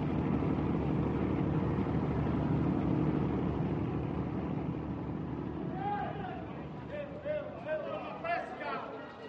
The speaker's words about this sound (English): The relentless noise of automobile traffic is temporarily overshadowed by the growling engines of ferries leaving the port of Pylia.